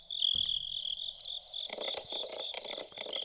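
Steady, high-pitched cricket chirping trills continuously throughout, fairly loud, with a denser layer of overlapping chirps joining in during the second half, played from a sound-maker toy. No voices.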